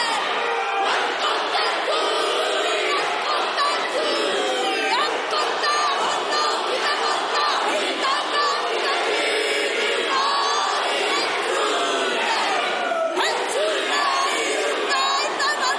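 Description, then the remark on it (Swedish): A large group performs a Māori war haka in the parliament of New Zealand, chanting and shouting forcefully in unison, loud and rhythmic with stamping energy, voices layered and continuous throughout. “Det finns olika hacka för olika tillfällen. I think it was the war one.”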